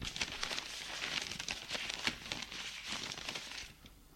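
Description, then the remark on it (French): A stack of prescriptions and social security papers is picked up from the top of a desk and handled, with steady crinkling and rustling in a series of short bursts that fades slightly at the end. No one speaks. “prend du dessus du bureau une pile d'ordonnances et de papiers pour la sécurité sociale.”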